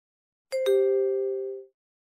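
A prompt tone plays alone: two quick chime notes, higher then lower, with the second ringing steadily for about a second before fading out. It is the beep signalling to enter credit card information to pay for tickets.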